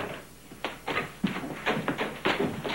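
A door is opened and then shut, heard as a series of quick knocks and clatters, about half a dozen moderately loud bursts in uneven rhythm with no talking.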